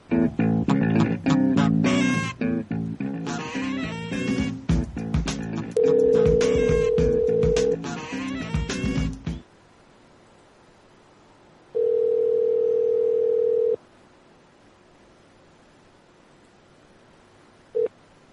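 An outgoing phone call's ringback tone: a steady, fairly loud electronic purr rings out, first under busy music-like sounds, then alone after a gap of silence, ending with a brief blip.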